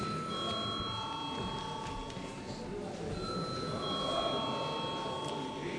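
parliament chamber bell rung

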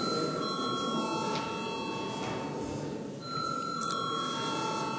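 parliament voting bell ringing

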